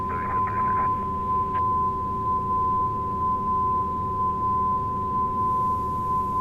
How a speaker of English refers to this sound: Yeah, the backing tone is getting louder.